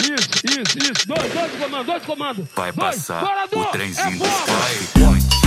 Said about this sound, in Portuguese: Alguém pode dar dois tiros? Dois de comando. Basta com o pau. Dois em tiros todas de fuzil.